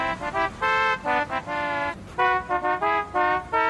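A novelty car horn on a car at A&M Autoland blares out a tune, a series of loud, brassy harmonic honks in quick melodic bursts of varying length, playing a programmed musical phrase with no talking over it.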